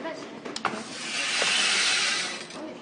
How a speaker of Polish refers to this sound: Tak, to są takie dźwięki deszczu.